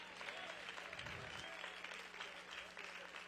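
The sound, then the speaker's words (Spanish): Sustained applause from a crowd at a preacher's call, a dense, steady patter of many hands clapping at once, fairly loud, with faint voices mixed in. “Dice amén o no, deme ese aplaudir, aunque sea deme ese, vaya.”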